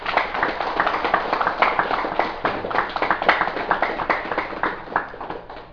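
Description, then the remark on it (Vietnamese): An assembly at a Buddhist talk breaks into sustained applause, dense overlapping claps at a steady, fairly loud level for several seconds with no voices on top. “Thành nó như vậy, chúng ta thấy rằng là ở đây đó, xin đại chúng vỗ cho một tràng pháo tay thật to.”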